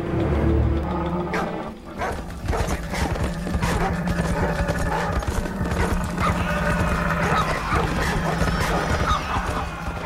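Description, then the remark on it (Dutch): Steady clip-clopping of many hooves from a large caravan of horses and camels travelling through the Gobi Desert, a busy rhythmic clatter with occasional whinnies and a dog barking somewhere amid the procession. “Reeds 16 dagen is een grote karavaan van paarden en kamelen op weg door de gevaarlijke Gobi-woestijn.”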